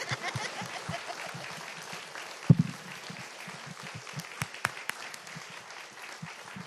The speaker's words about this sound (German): Jetzt kann man noch mal klatschen.